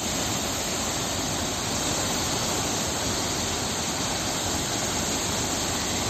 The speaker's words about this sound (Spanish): Y este es el sonido del agua desbocada por la lluvia y el deshielo.